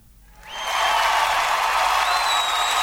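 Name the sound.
applause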